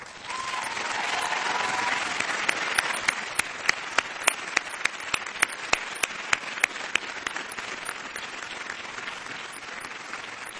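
Graduates at a McGill law school graduation give a sustained round of applause to thank the people who supported them: dense, steady clapping with sharper individual claps popping out, holding for about ten seconds and easing slightly toward the end. No one speaks.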